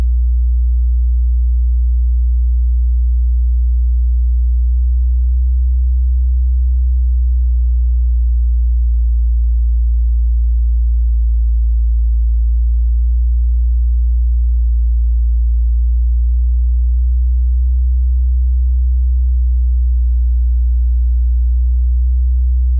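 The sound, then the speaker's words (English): A steady, deep hum from a tape recording drones on alone for the whole stretch, its frequency slowly varied by about 2 hertz up and down, loud and unbroken with no other sounds. “You might not hear this so well if you're in your car, especially if you're on the highway, but I'm about to vary the frequency a little bit.”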